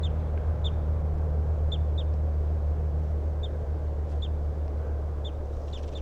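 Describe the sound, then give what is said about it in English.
A male bird near a road sings a series of short, high, repeated chirps at irregular intervals over a steady low rumble like traffic or wind. No one speaks. “So recording, here's the good song of that male who's near the road.”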